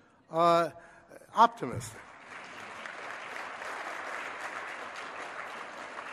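Audience applause swells after a couple of brief vocal bursts, then settles into a steady, dense patter of many hands clapping at moderate loudness for several seconds.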